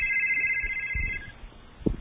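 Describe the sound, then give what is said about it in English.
A telephone ringer trills steadily with a bright electronic tone, signalling an incoming phone call, then cuts off abruptly, followed by a couple of faint handling clicks and low thumps. “And, here we got our first phone call. We got our first phone call. Let's hear that ringer.”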